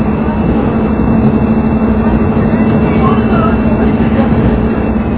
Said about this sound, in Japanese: この列車は車2両で運転しております。